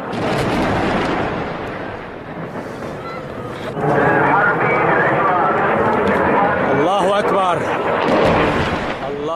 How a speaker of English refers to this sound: The Russian bombing was fierce. It began quickly here in October. The sound of Russian planes dropping bombs near the city of Homs and a Syrian civilian on the ground reacting to the bombing.